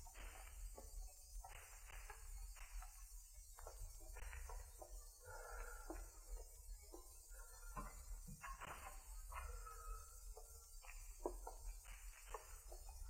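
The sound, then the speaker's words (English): Slow, uneven footsteps of more than one person climb a set of stairs, each step a muffled thud with a creak, spaced about a second apart over a low steady hum. No one speaks. “They're on the stairs now.”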